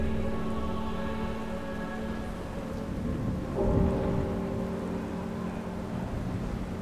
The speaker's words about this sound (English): It was between 9 and 10 a.m., and a massive storm had enveloped the entirety of Suffolk, England. As the tempest rages, rain falls in astonishing abundance with the ferocity of a hurricane.